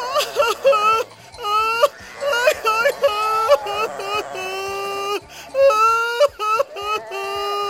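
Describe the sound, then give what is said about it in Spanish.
A voice imitates crying, with wavering, high-pitched wails and whimpers in repeated sobbing bursts, fairly loud, alone without other sounds. “Entonces yo también me pondré a llorar.”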